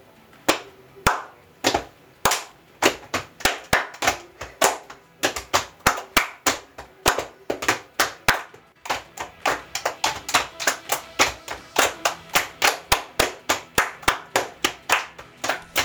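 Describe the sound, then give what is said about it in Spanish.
Rhythmic body percussion performed by a family at home as a body-percussion activity: sharp hand claps mixed with slaps on the body, played in a steady, patterned sequence for the whole stretch, fairly loud with no talking. “tenemos que ir a revisar la actividad que les habíamos dejado en la casa con la percusión corporal.”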